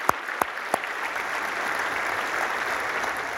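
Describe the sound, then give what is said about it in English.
A church audience applauds steadily, a dense wash of clapping that opens with a few sharp, distinct claps before settling into continuous, moderately loud applause. “I thought that deserved a round of applause.”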